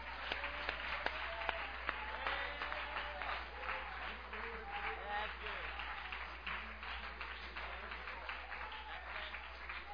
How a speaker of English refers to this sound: Let's clap our hands again to the Lord.